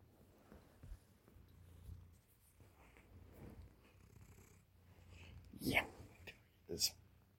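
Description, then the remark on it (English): A male domestic cat, cuddling and lying right next to a person who has just woken up, purrs up close in a low, steady rumble that swells softly with each breath. Near the end, a couple of brief, louder rustling bursts break in. “Woke up and my cat was cuddling, laying right next to me.”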